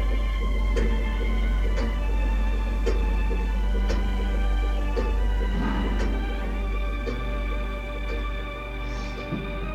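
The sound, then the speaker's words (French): A clock ticks steadily, about once per second, its sharp clicks sitting over a constant low hum and sustained tonal drone, with no voices. “Le temps passe au rythme de l'horloge et de ma reine.”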